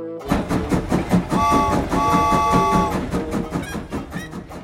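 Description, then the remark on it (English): A yellow train rolls along the tracks with a steady, rhythmic clickety-clack, loud, while a sustained horn-like tone sounds for a couple of seconds partway through. “Jay is on the yellow train.”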